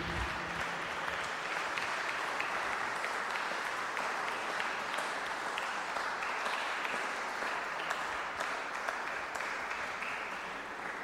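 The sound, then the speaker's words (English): An audience claps steadily for about eleven seconds after a performance by two musicians. It is a dense, even wash of many hands with no voices rising above it, holding a constant loudness throughout. “I think another round of applause will do.”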